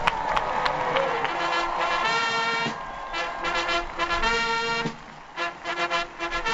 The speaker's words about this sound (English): You can hear the cheer that went up from the crowd that again stretches out across the National Mall.